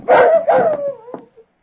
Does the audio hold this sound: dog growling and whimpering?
yes